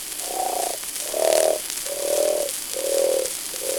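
A man snores in a steady rhythm, about five droning, buzzy rasps in quick succession, each swelling and fading with short gaps between. No voices are heard.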